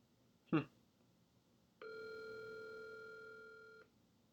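A sharp click, like a handset being lifted, is followed by a steady, unbroken telephone dial tone that hums for about two seconds and then cuts off abruptly. No one speaks.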